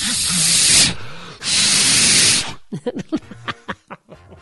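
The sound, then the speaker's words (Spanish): Two long, loud bursts of rushing air hiss as a balloon is inflated, separated by a short pause, followed by people talking and laughing. “Es inflar gente, güey. Exacto. Inflar gente. Agarrar el nudo de globo.”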